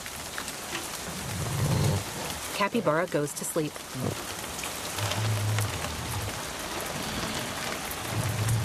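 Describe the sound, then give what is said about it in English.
Steady rain patters down on a boat, a dense continuous hiss with occasional heavier low thuds of drops, while a voice briefly speaks over it. “Rain begins to fall.”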